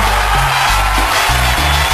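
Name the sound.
applause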